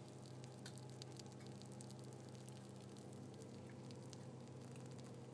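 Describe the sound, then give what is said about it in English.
A steady bubbling and sizzling, with dense crackles and small pops over a continuous low hum, as baked goods cook in a hot oven. No one speaks. “So they're sort of bubbling and sizzling.”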